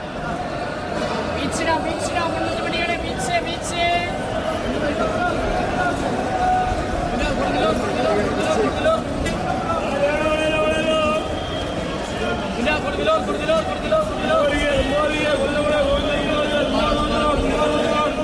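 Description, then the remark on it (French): Busy Indian bus station ambience: a dense crowd of overlapping voices, with people calling out and shouting, a steady loud hubbub, and occasional sharp clatters and engine-like rumbles underneath. “Alors là, vous nous avez immergés dans la gare routière indienne.”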